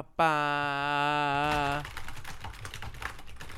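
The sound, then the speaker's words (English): A steady, buzzing tone holds for about a second and a half, then gives way to rapid typing on a computer keyboard, a busy patter of clicks continuing to the end. “I don't know if the listener will be able to hear the typing that I did there.”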